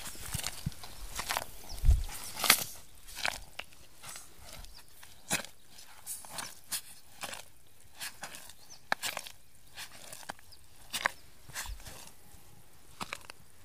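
Wet, sucking footsteps plod slowly through thick mud, each step a soft squelch followed by a brief slurp, close by and fairly irregular, with no voices.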